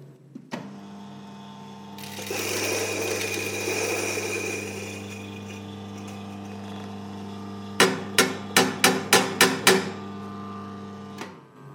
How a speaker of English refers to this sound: So we're going to grind this coffee up for paper filter. Away we go.